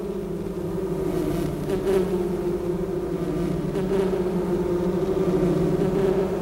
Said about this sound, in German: Jetzt sind Elefanten hierzulande kein Alltagsproblem, aber wer weiß, falls sie für alle Fälle das Geräusch eines Bienenschwarms bräuchten, bitteschön.